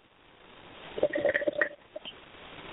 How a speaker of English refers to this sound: So if you hear me pausing occasionally and hear a kind of sucking sound, I'm having a sip.